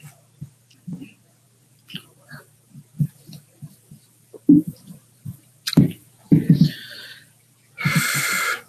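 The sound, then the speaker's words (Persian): Drinking sounds of a speaker drinking a glass of water: a series of soft, rhythmic gulps and swallows, followed by a sharp clink, a few wetter sips, and a brief burst of breathy noise at the end. “آب میخوام، آب. متشکرم.”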